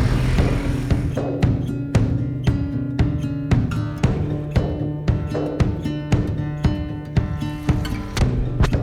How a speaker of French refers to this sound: Le métro passe.